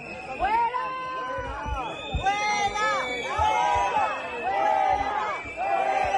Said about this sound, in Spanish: En este contexto, el presidente del Gobierno ha sido recibido y despedido del desfile de la fiesta nacional con pitidos y abucheos.